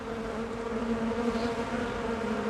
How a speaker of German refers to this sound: Bienen. Hört nicht jeder gern so einen ganzen Schwarm? Ja, die stechen ja bekanntlich, und es stechen aber zum Glück nicht gleich alle, wenn man ihrem Volk zu nahe kommt.